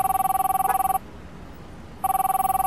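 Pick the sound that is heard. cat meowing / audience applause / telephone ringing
telephone ringing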